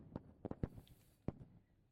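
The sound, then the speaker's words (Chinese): Faint fireworks go off outside before midnight for the New Year, in a few scattered pops and thuds, with a short cluster early on and another single bang a moment later, all quiet and muffled. “外面隐约听到烟花声了，这还没到12点呢，大家都急着过年啊。”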